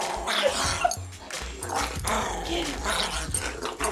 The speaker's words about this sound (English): Even in play, Frankie sounded like a maniac. Here's the only recording I have of him happily wrestling with my other dog, Memphis.